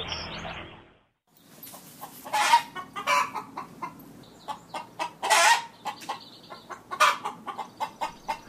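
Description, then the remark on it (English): Several of a neighbor's chickens, disturbed after encountering a raccoon, cluck and squawk in an agitated, overlapping chatter, with sharp bursts rising above a steady background of clucking, fairly loud throughout. “Listener Ellen recorded the chatter of her neighbor's chickens after they encountered a raccoon.”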